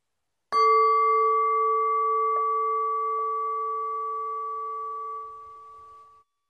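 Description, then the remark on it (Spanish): A single gong stroke rings out clearly, its bright sustained tones hanging in the air and slowly fading over several seconds until they die away into silence. “Escucha el sonido del gong hasta diluirse en el silencio.”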